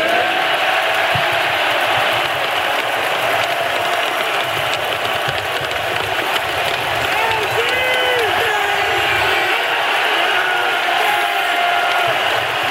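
A dense, roaring arena crowd at Fiserv Forum cheers steadily as Giannis Antetokounmpo is given the NBA Finals MVP trophy, with rhythmic chants of "MVP" rising through the din and scattered whoops and shouts over a constant wash of noise.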